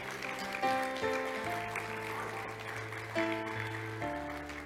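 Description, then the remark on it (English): A steady wash of crowd applause, given as a hand clap of praise to God, fills the room, continuous and moderately loud, under sustained keyboard chords that shift every second or so. No one speaks. “Now, can you just give God a great old big hand clap of praise in the room?”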